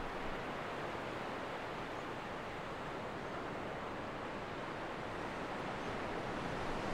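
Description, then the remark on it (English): A steady, continuous wash of ocean surf on the golden sands of Alexandria Bay as the sun begins its descent, a dense hiss and rumble at an even level with no distinct individual breakers and no voices. “The sound of the waves becomes a gentle lullaby, guiding you into a state of deep peace.”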